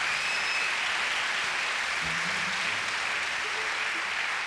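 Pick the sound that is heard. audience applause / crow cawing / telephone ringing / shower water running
audience applause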